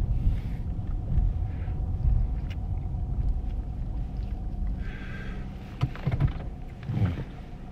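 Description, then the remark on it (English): A steady low mechanical rumble fills the inside of a car as an automatic wash runs, with bursts of hissing water spray and occasional thumps and clunks against the body. “Get this car washed.”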